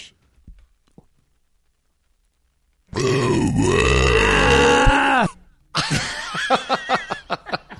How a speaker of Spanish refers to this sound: Cuenten 5 segundos y a los 5 segundos va a sonar otra vez el eructo. ¿Listos?